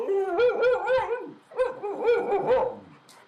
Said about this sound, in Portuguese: eu tava tirando uma soneca ali, acordei, o cachorro tava latindo.